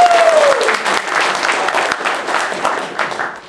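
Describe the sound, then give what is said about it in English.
An audience breaks into steady, enthusiastic applause, many hands clapping at once in a dense, continuous patter that holds fairly loud throughout, with a brief voice fading out at the very start. “Yes, another round of applause!”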